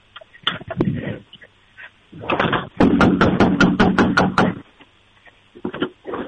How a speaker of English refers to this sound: Get them worked up like crazy. Okay. Let me go outside real quick and start banging on the door.